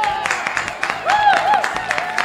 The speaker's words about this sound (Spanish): Voy a pedir un aplauso muy fuerte a nuestra primera invitada musical,